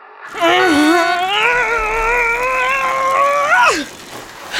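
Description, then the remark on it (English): A voice imitates an engine revving: a loud, sustained droning tone that swells up, climbs gradually in pitch for a few seconds, then drops away at the end. “Racers, start your engines.”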